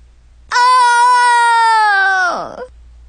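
human body sound, person screaming

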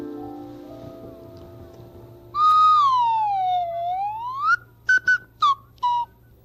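signal or alarm, whistle being blown

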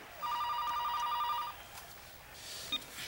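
household object, telephone ringing

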